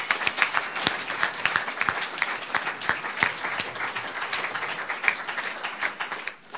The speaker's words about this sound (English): Let's give another round of applause for all the speakers, please.